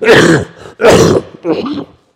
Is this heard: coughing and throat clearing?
yes